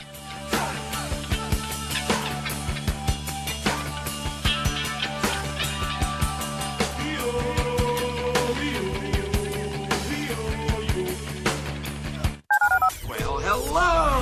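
A long run of telephone keypad dialing tones, quick beeps pressed in steady succession, stopping briefly near the end before a short burst of warbling, chirpy tones. No one speaks.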